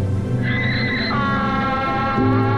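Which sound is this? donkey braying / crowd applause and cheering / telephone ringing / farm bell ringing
donkey braying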